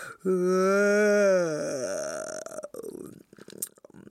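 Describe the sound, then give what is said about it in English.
A voice imitates a tiger's big yawn as it wakes up: a loud, drawn-out, throaty groan that holds for over a second, then sags and trails off into quieter breathy mouth sounds. “When King Tiger woke up, he yawned.”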